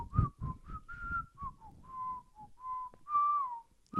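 A person whistles a song melody, a string of clear sustained notes rising and falling in a melodic phrase, with short breathy gaps between them and no talking.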